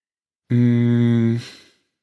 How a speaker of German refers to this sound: Erstmal ein tiefes Schnaufen, das lässt schon mal tief blicken.